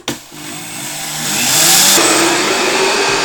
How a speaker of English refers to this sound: The very first thing I'm going to do is I'm going to grind the sesame seeds in my Vitamix blender. I'm going to grind them down into a powder.